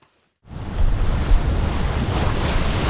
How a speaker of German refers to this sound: Die Wellen des Indischen Ozeans schlagen gegen eine steile Felswand. Eine der Stellen, an denen Kenias Küste keinen Sandstrand hat.